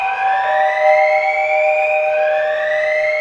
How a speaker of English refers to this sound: This is an amber level alarm. Radioactive contamination inbound. Please clear the docking floor and do not return to your ships until directed.